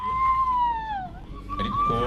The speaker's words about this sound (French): Vous entendez le début des premiers cris donc de ces femmes qui donc commencent à quitter la cérémonie et à partir emmenées par deux personnes de la Croix-Rouge.